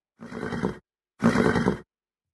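A horse nickers twice, two low, rumbling, fluttery calls about half a second each with a short pause between, fairly loud with no other sounds.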